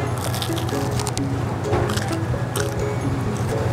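Several crunchy bites into the crust of a square Sicilian pizza slice, short crackly bursts with wet, squishy chewing, heard over a steady low hum of background noise.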